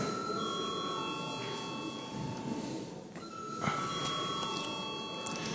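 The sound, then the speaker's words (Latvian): An electric bell in the chamber of Latvia's parliament, the Saeima, rings continuously for several seconds before a vote, a steady, fairly loud metallic trill that dips briefly midway and then carries on, with no talking over it. “Lūdzu zvanu.”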